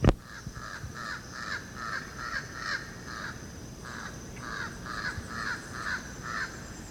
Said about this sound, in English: That's Jabbering Crow. Now it's flying across the open space. It's only one of them.